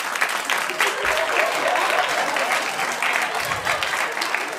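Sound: people clapping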